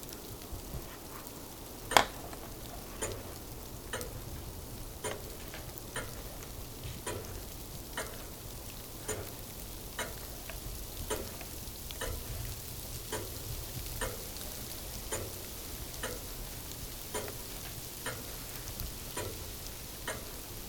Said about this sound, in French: Instinctivement, il y a ce tic-tac. Alors cette pendule, elle était chez mes grands-parents. Elle était dans la chambre à coucher de la grand-mère.